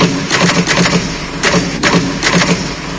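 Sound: typing on a typewriter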